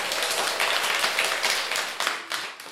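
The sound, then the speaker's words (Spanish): People in a class applaud after a Christmas snowman song is performed, a dense, steady wash of many hands clapping at once that holds for a few seconds before starting to thin out near the end. “Bueno, bravo, les damos un aplauso.”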